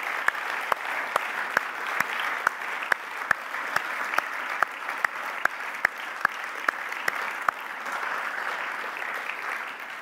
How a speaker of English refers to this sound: So can we just do a massive round of applause, please, for all these people who've got involved with camp this year. It's brilliant.